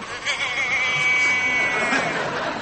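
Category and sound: animal, sheep bleating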